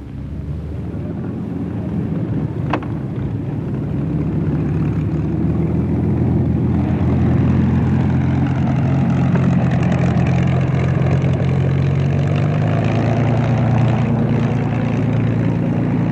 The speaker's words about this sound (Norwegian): Første Spitfire kjører nå frem mot meg. Vi er bare et par meter borte.